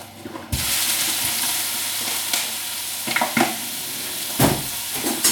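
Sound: food sizzling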